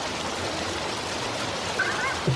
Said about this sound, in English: I'm going to take the water slide down to my chambers.